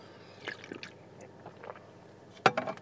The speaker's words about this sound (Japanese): ちょっとコーヒー飲みます。